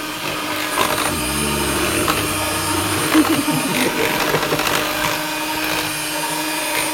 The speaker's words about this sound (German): Oh, riech mal da am Mixer. Das riecht so nach elektronischen Abrieb und alles.